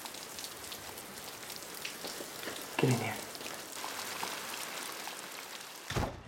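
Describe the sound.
Steady rain hisses throughout, a dense, even patter close by, with a brief spoken line in the middle and a short bump near the end.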